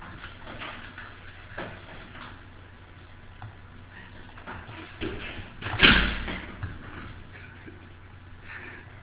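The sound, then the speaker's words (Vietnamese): A door is shut with a solid thud and locked, followed by faint clicks and rattling of a latch, with soft background noise throughout. “Dạ dạ, để khóa cửa giùm.”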